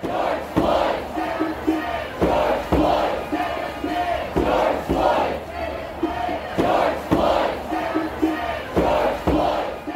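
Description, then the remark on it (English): A large crowd of protesters in Minneapolis, protesting the police killing of George Floyd, shouts in unison, loud rhythmic chanting bursts repeating roughly every second or so, with a dense roar of many voices filling the gaps between calls. “He was out there amongst a crowd of people who, for a lot of them, had never met this man, but felt the same hurt, the same rage.”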